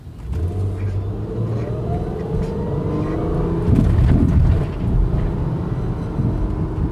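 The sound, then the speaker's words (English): A public bus's engine rumbles low and steady, rising as it accelerates, outside the Goodwill Industries building in Kalamazoo's Edison neighborhood, where buses drop off people. Continuous street traffic noise surrounds it and there are no voices. “Throughout the day, public buses can be seen dropping off people at Goodwill, a brick-faced building”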